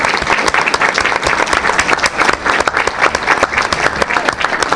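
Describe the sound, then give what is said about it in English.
A crowd applauds a middle school art teacher steadily for about five seconds, dense overlapping claps forming a loud, even wash of sound with no voices on top. “who is our middle school art teacher right now, needs a round of applause.”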